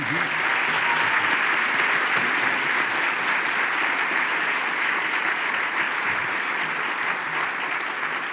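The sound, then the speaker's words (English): A candidate forum crowd applauds to welcome candidates J.B. Pritzker, Chris Kennedy, State Senator Daniel Biss, Bob Diber, T.O. Hardeman and Dr. Robert Marshall. The clapping is a dense, even wash lasting about eight seconds at a constant loudness, with faint voices mixed in underneath. “Let's welcome them with applause tonight.”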